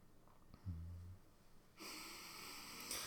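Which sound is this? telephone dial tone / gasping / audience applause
gasping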